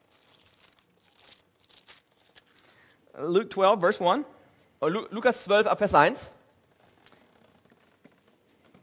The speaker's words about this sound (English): Music to my ears. Hear the pages turning? Yeah, that's wonderful, right? Wonderful. Also, er freut sich über die wunderbare Musik, die er im Raum hört.